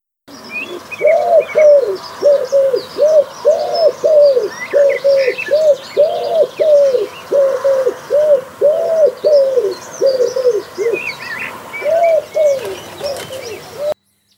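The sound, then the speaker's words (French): A common wood pigeon coos in a steady series of soft, hooting phrases, clear, while small birds chirp and twitter faintly in the background. “Alors tout d'abord, je vous présente le pigeon ramier.”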